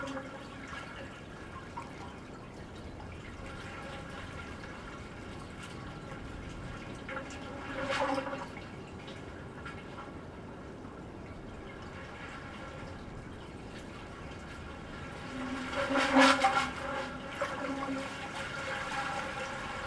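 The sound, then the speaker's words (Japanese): Hollow watery gurgling and sloshing of seawater echo from thumb-sized holes in the asphalt of a harbor, swelling into two louder surges about eight seconds apart over a steady low background wash, with no voices. “港のアスファルトには親指が入るぐらいのいくつかの穴が開いていて、そこに耳を傾けると普段の波とは全く違う音が聞こえてきます。”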